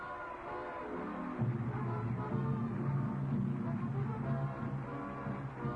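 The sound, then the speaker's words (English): A moving train bound for Washington, stopped in Cleveland for 10 minutes, rumbles along steadily, and after a moment a low, sustained whistle sounds and holds over the rolling noise. No one speaks. “Hey, Lon, put on her brakes. Pull a whistle, do something.”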